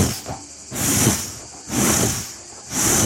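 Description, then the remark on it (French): A voice imitates a swimmer's underwater glide, the dolphin undulation, with breathy, hissing whooshes: three rhythmic swells that rise and fall in loudness, with no words spoken. “c'est de faire soi-même les bruits avec sa bouche”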